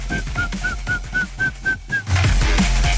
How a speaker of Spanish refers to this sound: con ese sonidito que se mete en tus oídos, en tu tímpano, y después de oírlo, cuando ya no lo estás escuchando, te da por silbar esto.